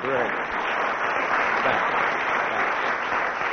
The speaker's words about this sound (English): So can we have a round of applause for our two adjudicators?